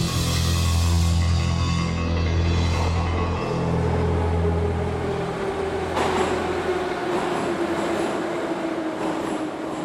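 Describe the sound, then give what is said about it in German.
A Moscow metro train rumbles steadily with a deep, loud low-frequency drone, then a rising whine and a sharp clank as it moves on, amid a continuous dense background of noise as the city's working population crowds into the metro in the morning. “Jeden Morgen drängt sich Moskaus arbeitende Bevölkerung in der U-Bahn.”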